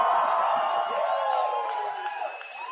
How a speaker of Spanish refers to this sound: ¿Por qué no gritan tan duro cuando hay que pagar la colegiatura?